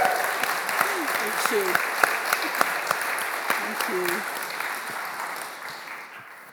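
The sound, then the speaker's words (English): A church audience at Emmanuel applauds warmly to celebrate a woman starting training to be a vicar in the Church of England, a steady wash of clapping from many hands that gradually fades, with a brief spoken voice near the start. “So let's give her a big round of applause as we celebrate that.”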